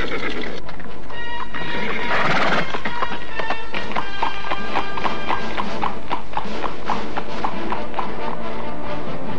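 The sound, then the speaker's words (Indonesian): Several horses ridden by six men gallop off, hooves clip-clopping in a rapid, steady rhythm that stays loud, with a brief whinny near the start and no talking. “Dan kemudian melarikan kuda-kuda mereka ke arah mana kepergian gadis itu.”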